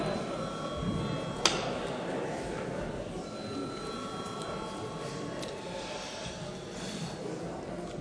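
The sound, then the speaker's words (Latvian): A parliament chamber voting bell, rung at the chair's call before a vote, rings in one steady, unbroken electric tone for several seconds, over a low murmur of voices and shuffling, with one sharp click early on. “Lūdzu zvanu.”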